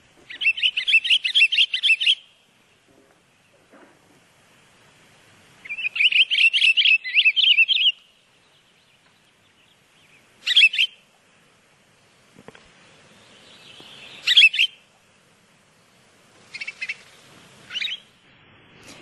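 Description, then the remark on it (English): A pine grosbeak sings two long, rich warbling phrases, then several shorter whistled notes after pauses, all clear with no talking. “So let's see what the pine grosbeak sounds like.”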